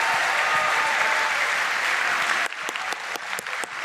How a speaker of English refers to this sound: I think a round of applause